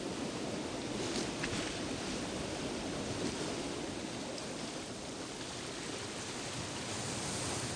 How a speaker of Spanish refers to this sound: Tumbado en la arena junto al agua, oyes romper las olas en la orilla.